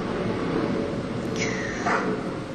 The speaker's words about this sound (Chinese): 刚刚可能有蛮大的噪音，是飞机在天空飞过的声音。如果你听到噪音，我想在你内心也会产生很多的感受，也愿大家能安住在这些感受里。